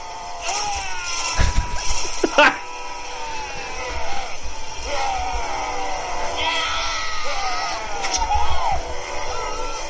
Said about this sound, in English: Could you play us out on the longest yell and the greatest yell in movie yelling history?